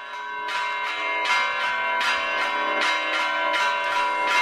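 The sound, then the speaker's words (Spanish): Castilian church bells ring in a steady sequence of bright, resonant strikes roughly every three-quarters of a second, each tone overlapping the lingering hum of the last, loud, with no voices. “Bueno, campanas castellanas, eso sí que te lo puedo decir.”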